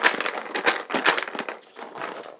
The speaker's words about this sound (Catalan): El timbal era en veritat una ouera. Li he posat unes boletes i una cinta, després l'he pintat.